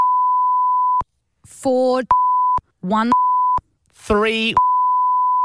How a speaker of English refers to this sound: We'll have to beep a few numbers just to keep them anonymous.